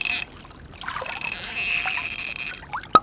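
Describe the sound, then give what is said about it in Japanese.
Water splashes and trickles steadily, poured over a body while washing before getting into a bath after farm work, with a broad watery hiss and a sharp splash near the end; no one speaks. “あなたさっきまで畑仕事してたんだから、入る前には体を洗わないと。”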